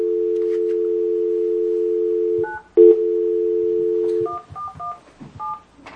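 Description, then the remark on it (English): A steady telephone dial tone hums, broken by a couple of keypad beeps, then a quick run of touch-tone digits being dialed to place a call during a meeting, clear with no voices. “We're going to make a phone call. Yeah, I'll go ahead and call him.”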